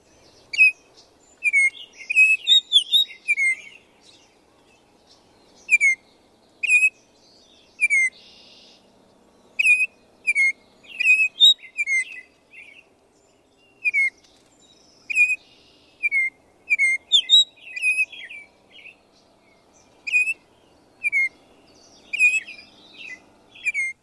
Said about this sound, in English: And so actually, let's take a moment and listen to a couple of those, a lot of questions about Baltimore Orioles. So maybe let's start with listening to that first.